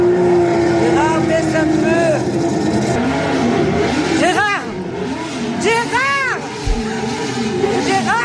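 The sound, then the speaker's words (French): A loud motorcycle engine revs steadily in a motorcycle video being watched on a computer, its pitch swelling and falling in several sharp bursts, like a bike being throttled hard. “Là, il y a sa femme qui est devant la télé, dans le salon, tandis que Gérard se met devant l'ordinateur à regarder des vidéos de moto.”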